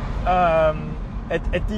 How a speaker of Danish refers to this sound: Nu bliver der larm lige 2 sekunder, skal lige over i en lastbil her.